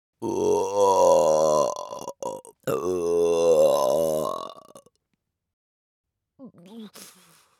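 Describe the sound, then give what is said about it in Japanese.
A sudden, loud, drawn-out burp bursts out, quickly followed by a second long croaking belch, then a faint breathy sound after a short pause. “急な不意打ちザーメンゲップで、私も驚きました。”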